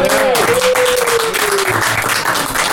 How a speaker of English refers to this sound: And thank you again. Let's give a round of applause one more time